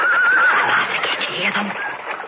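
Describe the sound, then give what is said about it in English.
A horse whinnies loudly, a wavering high-pitched neigh that trails off over about two seconds, with faint voices murmuring underneath. “They stopped here by the stream to water the horses.”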